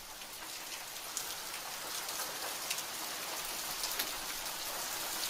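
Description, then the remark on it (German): Hail falls steadily in a dense, continuous hiss of pattering impacts, with scattered sharper clicks of stones striking a surface. The sound holds at an even, moderate level throughout, with no voices. “Boah, es hagelt, Alter.”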